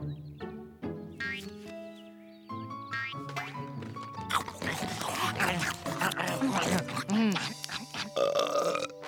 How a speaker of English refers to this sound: Excuse me. Clifford, was that a burp? Maybe. Or maybe it was just a fireworks of flavor. Really? Nope, it was a burp.